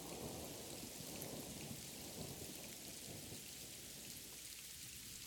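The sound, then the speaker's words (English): Heavy rain pours steadily throughout a thunderstorm as a lightning bolt strikes, a dense hiss over deep rolling rumbles of thunder, loud with no pauses and no voices. “The stress came back to me in a flash as the lightning came. A bolt struck and it lit up something that sent a chill down my spine.”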